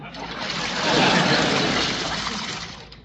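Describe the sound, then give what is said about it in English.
Water runs steadily from a drinking fountain at a school as someone takes a drink, a continuous hissing stream that swells slightly in the middle before settling, with no talking over it. “What are you doing at the fountain?”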